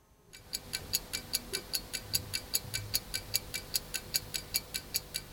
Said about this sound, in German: Das Ticken der Uhr ist eine Ikone der Vergänglichkeit.